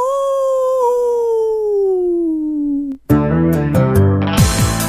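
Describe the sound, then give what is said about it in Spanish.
A single long, eerie werewolf howl glides slowly downward in pitch for about three seconds, loud, then cuts off as bright music with chords and percussion bursts in. “El hombre lobo. ¡Aú!”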